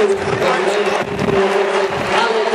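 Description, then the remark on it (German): A stadium crowd of 50,000 at a Sunday football match against Freiburg applauds as Alexander Meyer comes on as a substitute, a dense, steady wash of clapping and roar that stays loud throughout, with a sustained hum of voices running underneath. “Applaus von den Rängen.”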